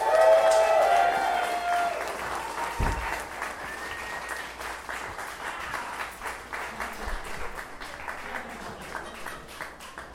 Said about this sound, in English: Please, once again, put your hands together and make some noise. Kevin McDonald.